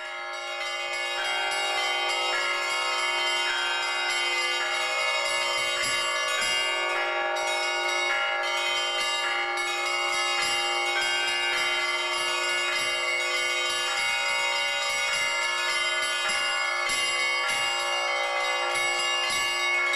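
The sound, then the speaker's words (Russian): A full peal of church bells rung by a bell ringer in the style of the Trinity Lavra of St. Sergius, as taught at the bell ringers' school of the Yekaterinburg diocese at the Bolshoy Zlatoust church, many bells struck in a steady layered rhythm, overlapping tones humming continuously, with no voices. “А попав на мастер-класс старшего звонаря Троицы Сергиевой Лавры отца Антония, как мы делаем это сейчас в школе звонарей Екатеринбургской епархии, что в храме Большой Златоуст, мы понимаем, что мы слышим ритмы самой Лавры.”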